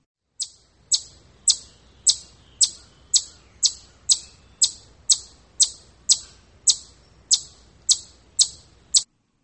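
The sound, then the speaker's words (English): A chipmunk gives a steady run of sharp, high chips, about sixteen in a row at an even, quick pace, fairly loud over a quiet woodland background, at a bend in a forest trail in autumn. “Many people figure it is one of the woodland birds, but it's really a chipmunk.”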